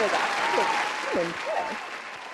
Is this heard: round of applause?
yes